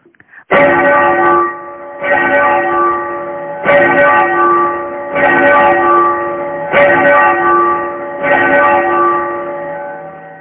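More than ten large bells ring loud together at the Shaolin Temple, struck again and again at a steady pace about every second and a half. Their deep overlapping tones swell and hum between strikes and resound through the mountains and forest. No one speaks.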